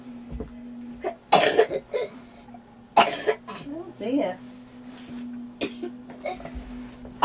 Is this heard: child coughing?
yes